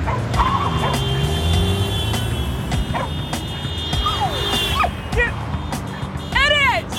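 A collie barks and yips in short, high, sharp bursts over the steady rumble of an idling car engine, with a quick run of yelps near the end; the car has pulled up and the dog seems to be being put out of it.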